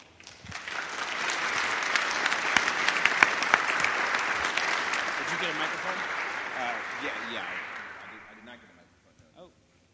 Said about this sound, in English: Well, thanks to all of you for the round of applause.